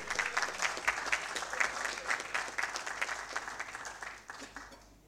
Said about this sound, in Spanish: a dirigirnos algunas palabras y les recibimos con un fuerte aplauso.